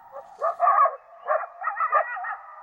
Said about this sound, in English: Closer to home, a coyote chorus in an eastern Washington canyon.